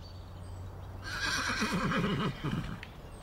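A horse whinnies once, a shrill, quavering neigh that rises and trembles before fading out, over a low steady background rumble with no talking.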